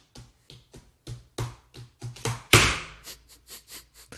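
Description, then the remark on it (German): A voice-free imitation of a dog's claws clicking on a parquet floor in an apartment: a steady series of about fifteen sharp taps, one louder scrape-like burst in the middle, then quicker, lighter clicks. “Und ich schlafe einfach seit 5 Nächten nicht mehr, weil du hörst halt immer, Achtung, ich simuliere das jetzt, weil die hat Fingernägel und Parkett, ja?”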